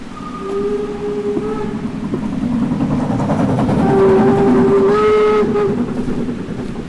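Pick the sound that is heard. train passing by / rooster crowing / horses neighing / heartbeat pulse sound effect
train passing by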